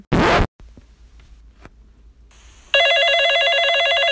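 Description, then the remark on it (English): A quick harsh rasp and a few soft clicks give way to a loud electronic telephone ring, a steady warbling trill that keeps going without pause. No one speaks. “your phone's ringing.”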